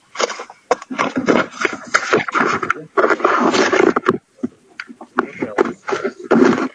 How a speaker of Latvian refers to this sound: Pieksniņkungs, mēs jūs ļoti slikti dzirdam. Jūs vairāk dzirdu papīru šaustinot.